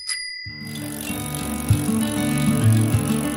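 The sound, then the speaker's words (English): A bicycle: a brief bright ring at the start, then a steady, fairly loud low whirring rattle of the moving bike that continues to the end, with no one talking. “A little less heady might be a celebration of Bike Month.”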